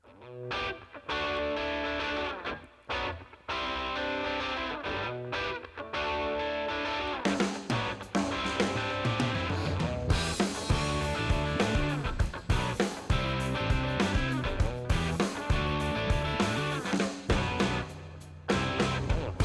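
A loud rock song with distorted electric guitars and pounding drums, starting with a steady riff and swelling into a fuller, denser band section after a few seconds; no talking over it.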